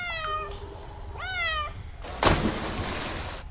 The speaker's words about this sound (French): Ah, ça? C'est Gala, le chat de Madame Vogt. Il vient plonger de temps en temps avec moi.